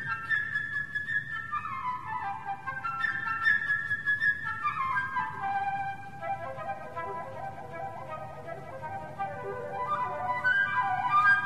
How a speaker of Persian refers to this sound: خب فلوت چی؟